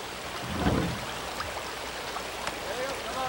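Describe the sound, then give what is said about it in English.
A river bending through a forest, in a scene from the Deadwood movie, rushes and babbles steadily, a dense continuous wash of water noise with a brief low swell early on and faint murmurs beneath. “A river bending through the forest, like so.”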